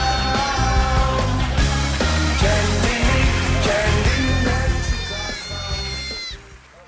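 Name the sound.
sheep bleating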